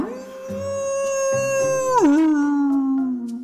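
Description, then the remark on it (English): A single long howl from a great big wolf, loud, holding a steady high note for about two seconds before sliding down to a lower, drawn-out pitch that fades at the end. “She was standing next to a great big wolf.”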